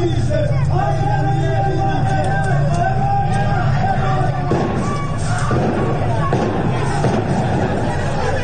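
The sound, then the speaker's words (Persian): A loud crowd of protesters shouts and clamors in the streets of the town of Abdanan, with many security forces present, while several sharp gunshot-like bangs crack out at irregular intervals above the steady roar of voices. “در برخی از ویدیوهای منتشر شده صدای تیراندازی هم به گوش می‌رسد.”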